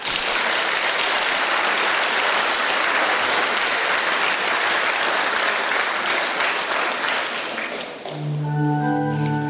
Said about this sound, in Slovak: Tak si zaslúžia aj oni ešte jeden potlesk.